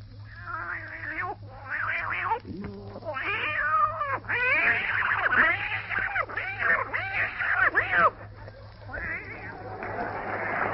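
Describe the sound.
A human voice imitates two cats fighting, with rising and falling yowls, wails and snarls overlapping in a continuous, loud caterwaul for about ten seconds.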